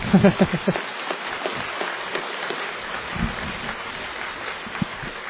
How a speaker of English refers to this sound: Now, you know what I say, if you're going to do something, do it properly. You're going to clap, clap with everything you've got. Go on.